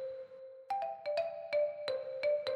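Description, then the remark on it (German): A glockenspiel plays a short melody of about eight bright, ringing struck notes in a steady rhythm, each tone sustaining and overlapping the next, with no voices. “So, das Glockenspiel.”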